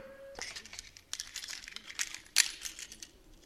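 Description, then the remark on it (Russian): Keys jingle and clink in a rapid, busy flurry of metallic clicks as someone searches for the key to unlock an anti-shark cage, with a sharper clack near the end. Fairly loud, no talking. “Сейчас, вот подождите, только найду ключ.”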